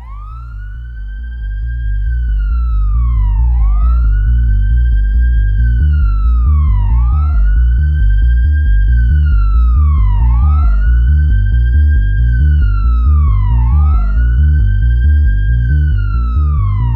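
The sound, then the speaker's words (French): An emergency siren wails loudly, its pitch sweeping up and sliding down in a steady, repeating cycle every few seconds over a deep, constant rumble, with no voices. “les appels à l'aide et le chant des sirènes.”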